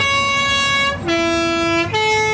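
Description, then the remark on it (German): A chauffeur presses a loud vehicle horn in the middle of the city of Chur, blaring a three-note melody: a long tone, then a lower sustained note, then a higher one, with the rumble of traffic underneath and no talking. “da lässt sich der Chauffeur nicht nehmen, dass er auch mal mitten in der Stadt auf die Hupe drücken darf”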